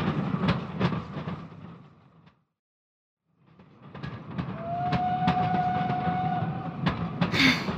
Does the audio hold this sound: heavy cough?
no